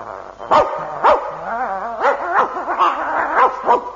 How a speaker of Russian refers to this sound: Ох ты, дерзкий пес!